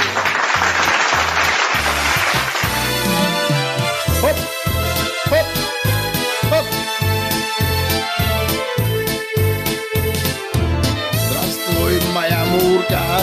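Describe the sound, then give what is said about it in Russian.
A burst of dense applause fills the first few seconds, then gives way to loud, bouncy music with a steady thumping bass beat and bright instrumental melody. “Давай, подключайся, Мурочка, аплодисменты!”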